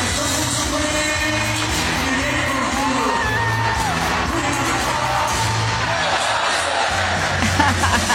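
A large crowd at a rock band concert in Montreal cheers and whoops loudly and continuously, with scattered yells rising out of the roar and band music thumping faintly underneath.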